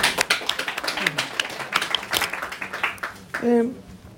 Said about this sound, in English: Good questions. Clap the hand for the questions.